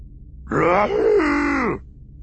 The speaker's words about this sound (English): Something very large and very irritated was making a growling, groaning noise. Well, I don't like the smell of this muckball any more than you do, Chewie, someone else answered.